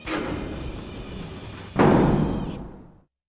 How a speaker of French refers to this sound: L'instant d'après, il passe le seuil et referme la porte.